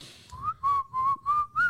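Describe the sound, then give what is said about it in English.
Someone whistles a short melodic phrase: a few sustained, clear notes with gentle pitch glides, in a steady rhythm over faint low background rumble, with no talking. “That is not the whistle sound yeah.”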